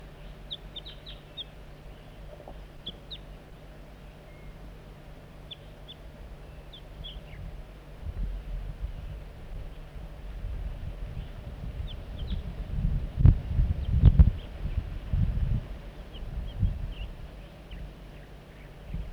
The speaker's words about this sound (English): Bird 4-3 coaxing the juvenile in with soft flight calls. Sound a little bit strange.